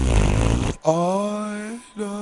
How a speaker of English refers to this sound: That's a fart in church, in case you didn't know.